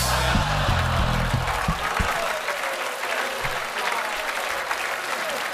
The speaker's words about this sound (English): Some of you were booing me, weren't you?